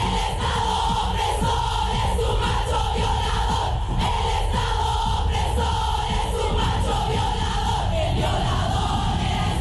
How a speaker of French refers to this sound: Imaginez, des milliers d'entre elles sont réunies, bandeau noir sur les yeux, poings levés, hurlant leur colère contre le patriarcat, contre cet État oppresseur qualifié de violeur macho.